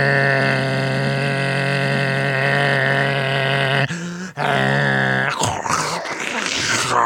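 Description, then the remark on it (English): A voice imitates a noise from a building's heat or plumbing that recurs every 3 to 6 minutes: a long, loud, droning groan, a short break, a second wavering groan, then a rough, scraping crunch to finish. “Anyway, and there's just something wrong, really wrong, with, I assume, either the heat or the plumbing.”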